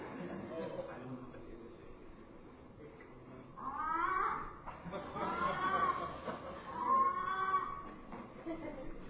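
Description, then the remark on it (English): A person imitates a frog screaming in pain with three drawn-out, wavering wails, mid-pitched and somewhat cat-like, rising in loudness over a low background murmur. “How do frogs scream in pain?”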